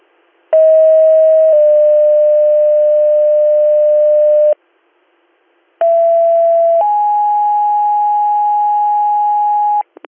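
Two bursts of a steady electronic dispatch paging tone, toning out for a Bath Ambulance driver to come to the base for a walk-up complaint, each about four seconds long and stepping from one pitch to another partway through, separated by a short silence. Loud and clean, with no voices.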